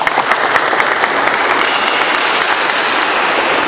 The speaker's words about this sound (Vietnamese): Một hình ảnh rất đẹp này, rất đáng một tràng pháo tay để cảm tạ Chúa và cảm ơn tấm lòng chân thành của anh chị em đã dám gần gũi với Chúa và gần gũi với nhau. Một tràng pháo tay thưa anh chị em.